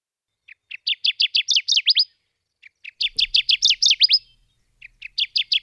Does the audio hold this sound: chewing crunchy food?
no